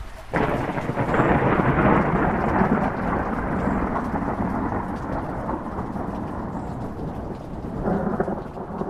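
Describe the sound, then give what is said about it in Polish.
A steady, dense downpour fills the scene with a broad hiss, while deep thunder rumbles continuously underneath, swelling slightly near the end. No voices are heard. “Mówi się, grozi deszcz. A deszcz nie grozi.”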